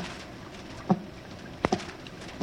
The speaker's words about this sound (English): Sounds like someone is tapping on the door.